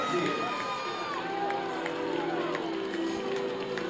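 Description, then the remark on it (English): A ballpark crowd on a Tuesday night rises to its feet, roaring and cheering after a first-inning solo home run to left field, a dense, sustained wash of many voices with scattered shouts rising out of it, fairly loud and steady throughout. “And this Tuesday night crowd on its feet.”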